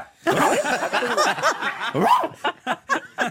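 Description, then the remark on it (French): A person does a vocal imitation of a barking dog, starting as a dense, yelping tangle mixed with laughter, then settling into four short, evenly spaced woofs, fairly loud. “Tu imites très bien les chiens.”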